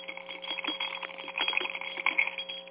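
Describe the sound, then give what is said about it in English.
A metal shaman rattle from Korea, hung with bells, is shaken steadily, giving a continuous bright jingling with small accented surges, ringing alone without any voices. “I have a metal rattle that I got many years ago, and I was gifted it, and it is said to be a shaman rattle from Korea.”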